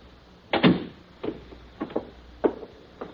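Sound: door opening and closing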